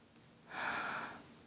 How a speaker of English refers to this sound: And I gasp in pleasure because it feels so good.